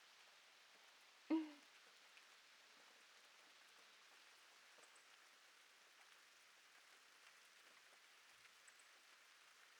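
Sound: rain falling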